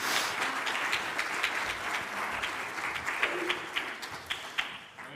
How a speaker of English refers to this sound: Thank you. Give them one more round of applause as they make their way back to their seats.